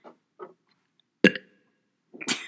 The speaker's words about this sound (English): He burped.